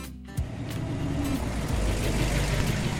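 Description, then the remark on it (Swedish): A car drives steadily through West Hollywood on a sunny stretch of broad, palm-lined roads, its engine and road noise making a constant low rumble that swells in after a brief quiet start and holds even throughout. “har lånat sin kompis bil. Han kör genom West Hollywood.”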